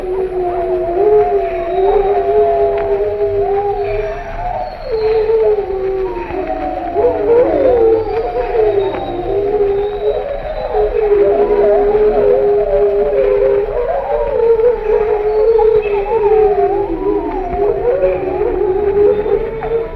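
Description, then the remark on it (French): Several wolves of a pack howl together in a sustained chorus, long overlapping wavering tones rising and falling continuously for the whole stretch, loud with no other sounds. “L'hurlement et l'aboiement sont une expression de communauté. Le hurlement solo de la tête de la meute attire l'attention sur une proie.”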